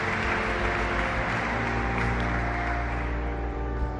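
long applause

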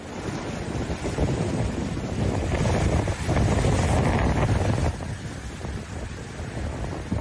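waves crashing against rocks

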